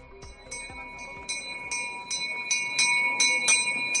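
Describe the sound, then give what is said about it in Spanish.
A hand-rung bell, rung by children at 8:15 in the morning to start the Corpus Christi procession in Seville, Spain, on a sunny, hot day, clangs in a steady, quick rhythm, about two strikes per second, its bright ringing tones overlapping and growing slightly louder, fairly loud. “Ocho y cuarto de la mañana, los niños carráncanos hacen sonar la campana para que la procesión del Corpus arranque en este soleado y caluroso día de San Fernando.”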